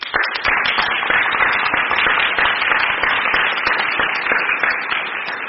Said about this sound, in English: So thank you, and I think all of you deserve a round of applause.